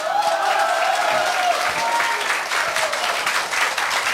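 Sustained applause from an audience, a dense wash of many hands clapping at steady loudness throughout, with faint crowd murmur mixed in.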